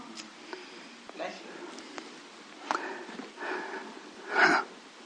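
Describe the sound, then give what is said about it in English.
A single sharp sneeze bursts out near the end, louder than the rest, after several seconds of faint sniffs and breathy, mumbled vocal sounds. “Bless you.”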